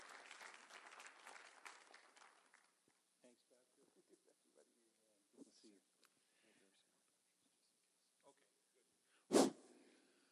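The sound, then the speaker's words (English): A crowd in Brooks, Alberta claps steadily for a couple of seconds to welcome speakers before the applause fades out. A voice then talks quietly, and one sharp, loud burst cuts in near the end. “So why don't you welcome with me”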